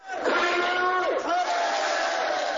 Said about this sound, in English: About 100 Japanese protesters waved their fists in the air and shouted, "Go back home," as the Mongyongbong arrived at the port of Niigata Wednesday morning.